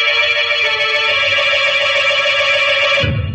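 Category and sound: sound effect, telephone ringing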